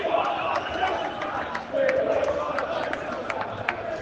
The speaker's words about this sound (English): And as you get around me, lots of boos ringing around.